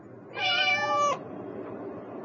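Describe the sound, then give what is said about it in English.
A single drawn-out cat meow, clear, with a bright harmonic tone lasting under a second, followed by quiet and the faint start of another sound at the very end. “Where's the orange cat?”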